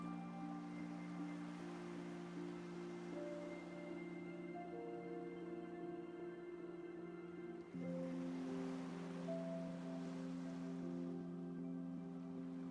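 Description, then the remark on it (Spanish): Soft ocean surf swells and recedes in slow washes beneath a loud, sustained musical drone of steady held tones; no one speaks. “Escuchando las olas del mar que van y vienen.”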